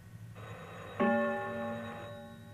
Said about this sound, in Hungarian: Kossuth Rádió Budapest. A következő gongütés pontosan 21 órát jelez.